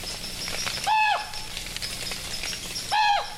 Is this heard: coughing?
no